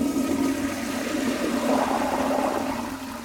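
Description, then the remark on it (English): A toilet flushes with a loud, steady rush of water that swirls continuously for a few seconds, with no voices present. “So you flush cold water in, and then when you flush it away, it's gone up to room temperature”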